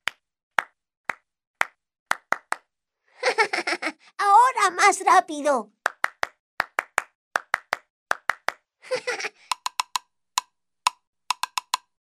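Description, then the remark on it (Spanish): Sharp hand claps in quick rhythmic clusters imitating a woodpecker's knocking. A voice speaks briefly and a lively, giggly voice breaks in midway, then the clapping resumes and quickens toward the end. “¡Bien! Vamos a hacerlo con las palmas, como Sammy.”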